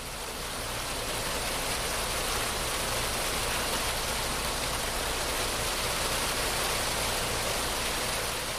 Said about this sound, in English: It's raining here, so I hope you can still hear.